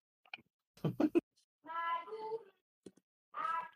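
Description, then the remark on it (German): A child's voice mimics a cat, giving two drawn-out, wavering meows from somewhere outside, moderately faint, with a few short clicks and a brief louder burst before the first meow. “Draußen klökt irgend so ein Kind nach einer Katze.”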